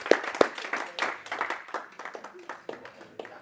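An audience claps their hands, a dense, irregular patter of sharp claps that starts with a few loud strikes and carries on steadily, gradually thinning and softening toward the end.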